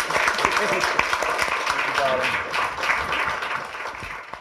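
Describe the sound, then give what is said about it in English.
An audience applauds the night's guests steadily throughout, a dense, sustained wash of many hands clapping at an even loudness, with faint voices mixed in beneath it. “But please do give a massive round of applause for our guest tonight.”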